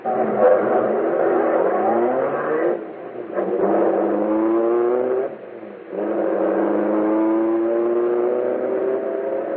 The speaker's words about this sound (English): Now, here comes the car. All right, get him in the car, quick. Okay, step on it. Head for the vault.